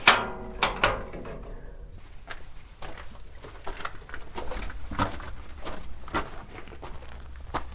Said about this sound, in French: Et voilà, et là, bon, c'est une porte, et on peut la franchir.